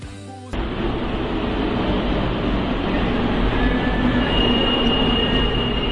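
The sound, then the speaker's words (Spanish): A train of the new Line 6 of the Santiago Metro in Chile, still in testing, rolls steadily along the rails, a loud, continuous rumble that begins abruptly, with a faint high-pitched wheel squeal rising toward the end. No one speaks. “Los trenes, que aún se encuentran sujetos a pruebas y en marcha blanca, unirán en 10 estaciones a las comunas de Providencia y Cerrillos.”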